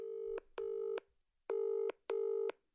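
signal or alarm, telephone dialing tones

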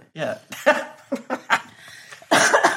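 human body sound, coughing

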